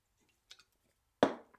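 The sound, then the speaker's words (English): A few faint wet mouth clicks, then a short, louder slurp or gulp that fades quickly, like someone taking a small sip of water. No one speaks. “I'm gonna have a little sip of water here.”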